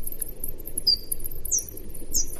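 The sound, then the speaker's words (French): Slowed-down bat echolocation calls, the ultrasounds bats make to orient themselves in space: a few short, high downward-sweeping chirps spaced about half a second apart, in two notes, over faint rapid high ticking and a low background hiss. “Gaëlle, qui a la technique, va nous passer un son d'écholocation”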